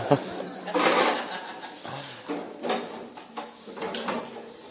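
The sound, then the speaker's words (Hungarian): Scraping and bumping noises as a chair is dragged and shifted into place while four chairs are being set out, several uneven rubbing pulses, with faint murmuring in the background. “Kérlek, ülj le erre a székre. Jó. És... Oké, okay, a második szék... Ez már sok lesz.”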